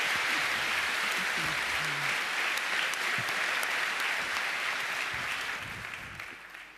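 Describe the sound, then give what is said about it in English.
An audience at a security research talk welcomes the presenters, applauding steadily, a dense wash of many hands clapping at a fairly even loudness before it starts to taper off over the last second or so. “So give them a warm applause, and stage is yours.”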